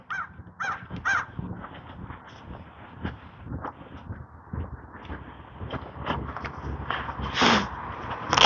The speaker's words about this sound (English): Three crows.